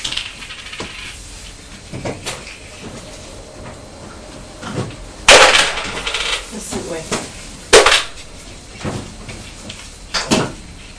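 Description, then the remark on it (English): A child plays with its mother's money: coins clink and clatter in irregular bursts, with a couple of louder metallic jingles among lighter taps, as small hands drop and shuffle them; faint soft voice sounds are heard. “You like playing with Mummy's money, don't you?”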